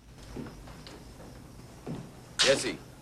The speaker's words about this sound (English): Truman opens the front door of his house and goes inside.